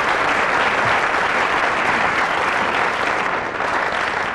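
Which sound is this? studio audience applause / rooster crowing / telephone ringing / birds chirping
studio audience applause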